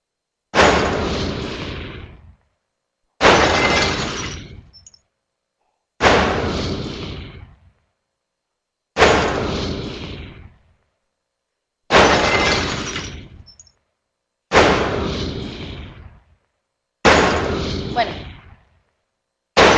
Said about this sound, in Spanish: Si ustedes se fijan, todos son ligeramente distintos. Yo lo que hice fue agrupar cuatro disparos y adicionalmente puse cuatro sonidos de escombros, de ruido, como de vidrios o cosas así.